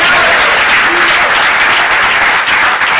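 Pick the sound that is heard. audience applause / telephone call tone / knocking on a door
audience applause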